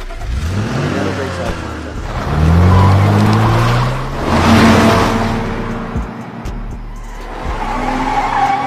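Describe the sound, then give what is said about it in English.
A car roars past at speed, engine revving in rising sweeps while tires screech and skid, loud, with a rumbling wash of road noise throughout. “And the adrenaline from the car.”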